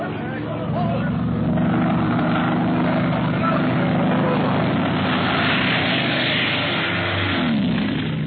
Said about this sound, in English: Is a madman flying that plane? Why is he making such dives and so low? He started from a great height, Commandant Ricard. Look out! Here he comes!